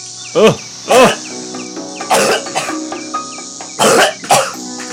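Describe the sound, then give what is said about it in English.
A person coughs and hacks in several harsh, forceful bursts, choking on a cicada eaten with corn on the cob, with strained gasps between fits, over a steady background of buzzing insects. “cough it up.”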